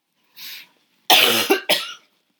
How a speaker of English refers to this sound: I've got a cough.